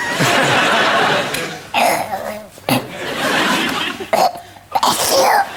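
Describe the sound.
Tom Cruise imitates a sneeze in a raspy, squawking Donald Duck voice for Seth MacFarlane, several loud, noisy bursts in a row, mixed with laughter.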